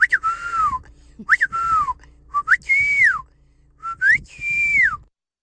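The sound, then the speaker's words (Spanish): A person whistles a family's identifying call whistle from Mexico, a short repeated pattern: four bright whistled phrases, each with a quick rising chirp followed by a longer falling tone. The whistling is loud, with brief pauses between phrases. “¿cuál es el silbido que tienes en tu familia, papuchón?”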